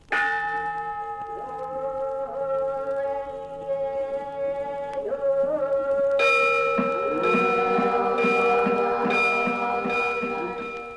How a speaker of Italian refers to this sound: Nei templi dell'antica Cina, il canto e le campane dei monaci buddisti risvegliano sonorità misteriose.